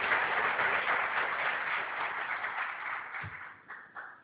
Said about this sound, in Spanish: a quien pido que se ponga de pie, por favor, y le rendimos ahí el aplauso. Felicidades.